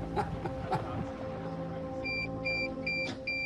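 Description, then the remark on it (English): A drone gives four short, evenly spaced high-pitched electronic beeps in a steady repeating pattern as it fails to connect, starting partway through over a low constant hum and faint background noise. “You've never heard it beep like this? This is the second drone that can't connect in this very area.”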